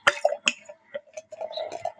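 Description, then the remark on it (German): Beer is opened and poured into a glass: a couple of sharp clicks, then a steady gurgling, glugging pour with small splashy bursts, no voices. “Also ich mach mal auf. So. Und dann geht's hinein ins Glas.”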